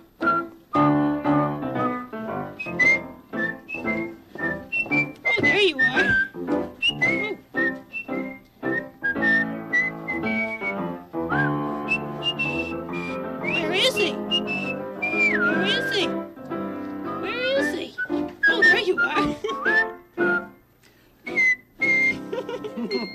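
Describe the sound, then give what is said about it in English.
A person whistles a lively, steady marching tune, the clear melodic notes bouncing in a brisk rhythm for over twenty seconds with only brief pauses. “How about marching whistling now?”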